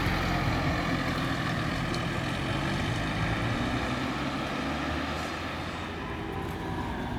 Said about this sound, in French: Et le passage d'un bus.